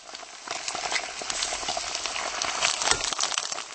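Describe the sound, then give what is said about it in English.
Fat sizzles and crackles steadily on grilled sausages at a kiosk selling grilled sausages in the centre of Prague, Czech Republic, a dense hiss with scattered pops and spits, continuous throughout, with no one speaking. “What you can hear now is the sound of sizzling fat coming out from one of many kiosks selling grilled sausages here in the centre of Prague.”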